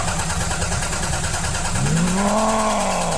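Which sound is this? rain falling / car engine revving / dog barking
car engine revving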